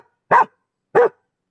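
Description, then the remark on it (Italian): Two loud dog barks, evenly spaced about half a second apart, each short and sharp with silence around them. “Il verso del cane.”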